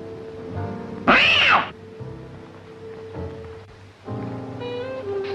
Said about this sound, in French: C'est les chats.